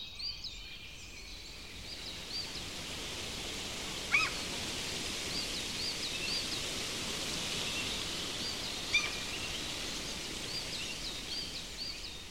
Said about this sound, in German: Hör mal, wie schön seine Blätter im Wind rauschen.